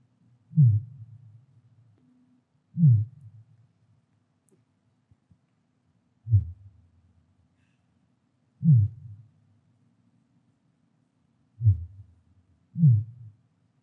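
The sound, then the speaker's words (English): Six deep, thumping pulses of fin whale calls, sped up five times, each a short downward-sweeping call, repeat at roughly regular intervals like a slow heartbeat. They are low, booming and isolated against near silence, with no voices present. “Okay, fin whale, my favorite animal. Second largest whale on Earth after the blue whale.”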